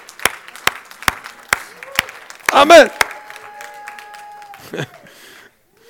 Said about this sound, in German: Dann dürfen wir uns freuen, dann dürfen wir klatschen. Halleluja. Amen. Lachen ist erlaubt. Klatschen ist erlaubt.